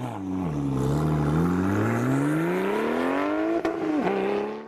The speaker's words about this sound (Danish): Hvad var det? Det var en sportsvognsmotor. V8, det var en Porsche. Var det det? Ja, det var en Porsche-motor. Så er det ikke en V8 i hvert fald.